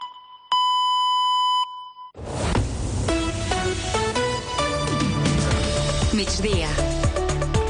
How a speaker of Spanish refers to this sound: Senyals horàries de 2:15 del migdia.